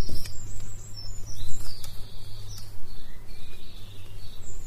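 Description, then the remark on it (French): Small birds chirp and twitter continuously in the open air out in nature, bright high calls overlapping, with a steady low rumble of outdoor background underneath and no one speaking. “Donc là, vous entendez les petits oiseaux, on est dans la nature.”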